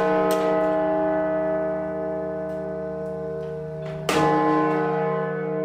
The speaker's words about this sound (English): So this is little John. It's known as locally. The big one is Little John. That's right. It's about 11 ton. That's a big bell, isn't it? It's a big bell.